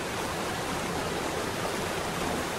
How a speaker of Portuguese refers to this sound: Parque Nacional da Chapada dos Veadeiros é reconhecido como Patrimônio Natural Mundial pela Unesco. Muralha, franjas, bujão e parafuso são os nomes das formidáveis quedas das cataratas do Rio dos Couros.